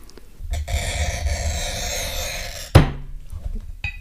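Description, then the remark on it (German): A glass cutter scores across a glass pane in one steady stroke of about two seconds, with the person standing over it to press harder, a gritty, high-pitched hiss that ends with a sharp knock, followed by faint handling sounds. “Das war der Schnitt und jetzt kommt das Klopfen.”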